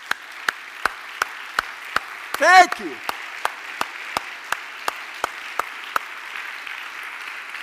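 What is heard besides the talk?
audience applauding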